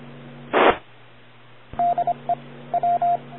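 A handheld radio transmitter (HT), keyed down for a long time, gives four short, steady, high-pitched time-out beeps in two uneven groups, after a brief burst of static, over a constant low electrical hum.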